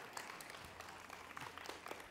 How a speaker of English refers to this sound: No, don't clap. That will not make me happy.